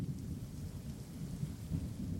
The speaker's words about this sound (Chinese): 哇，轰轰雷声，还有一点点的雨声，这是不是也跟你现在处于的环境那个天气一样呢？